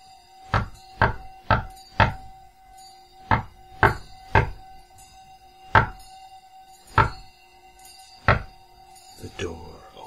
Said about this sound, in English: On the door, at eye level, is a hexagram, within a circle in white, on a larger circle of earth tones. You knock on the circle on the door 10 times.